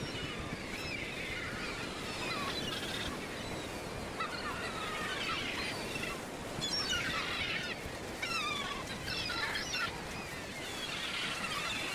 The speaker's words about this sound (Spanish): Sin embargo, son las gaviotas las que más frecuentan la zona de los Mejillones. Las gaviotas son, sobre todo, aves costeras que consiguen su sustento a lo largo del litoral.